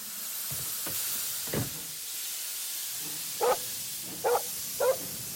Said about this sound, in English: pranced round, barking in delight.